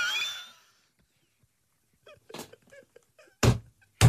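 A cat burps: a short, gulping belch, with another quick burst just after, following a brief high-pitched sound and some soft, scattered clicks and rustles.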